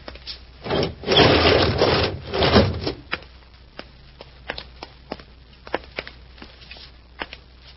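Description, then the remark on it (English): A heavy door of an insulated room scrapes and grinds open in a loud, rough rush lasting about two seconds, followed by a scattering of sharp clicks and light, irregular taps. “Now we'll open the door and take inventory.”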